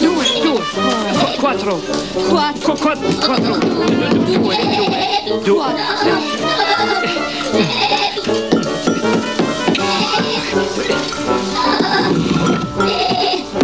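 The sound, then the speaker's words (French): A goat bleats loudly and repeatedly, its wavering cries filling the whole stretch while voices murmur underneath. “J'étais sûr que la chèvre allait charger”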